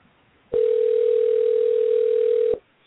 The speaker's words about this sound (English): There he is. There's the phone ringing, at least.